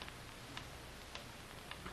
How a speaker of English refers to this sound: Listen to that ticking. That's fate counting what may be the last minute of our lives. As long as you can hear the ticking, you don't have to worry.